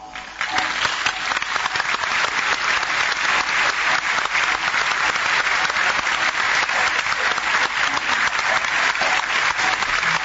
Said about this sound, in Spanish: Pese a lo largo, en el Calpol quedaban fuerzas para el aplauso final.